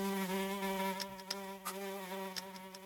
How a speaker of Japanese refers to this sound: ハエが。 ああ、はいはいはいはいはい。 ハエが飛んでる。 あ、ハエ飛んでますね。 ハエが飛んでるよ。